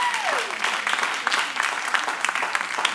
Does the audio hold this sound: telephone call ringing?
no